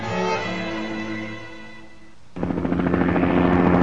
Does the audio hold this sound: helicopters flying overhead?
yes